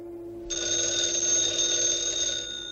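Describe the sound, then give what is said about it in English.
A telephone bell rings in one long, continuous burst after a short quiet moment, bright and metallic with a steady buzzing trill, loud and alone without any voices, on a call placed through an operator to a home in New York City. “A woman answers the phone.”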